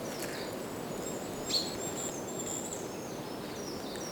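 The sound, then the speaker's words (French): Birds chirp and tweet in short, high calls scattered across the moment, one brief call standing out a little louder, over a steady wash of outdoor background noise. “Les gazouillis des oiseaux.”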